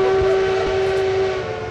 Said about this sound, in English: I think the number of times a man blows a horn on a train is in direct correlation